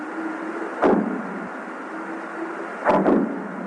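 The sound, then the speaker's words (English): Sharp underwater blasts from seal bombs, set off the coast of California by fishermen to scare sea lions from their catch, punctuate a steady hiss: one loud thud near the start, then a cluster of two or three booming explosions later, with a faint low tonal hum running through the background. “These are the sounds of underwater bombs off the coast of California set by fishermen to scare sea lions away from their catch.”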